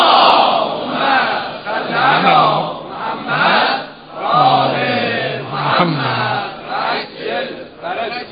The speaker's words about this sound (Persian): وقتی مزاح میکنیم با دوستانهایی که موافق نیستند ادامه بدیم، صلوات بفرستن. حالا اونایی که موافقن بگیم صلوات بفرستن.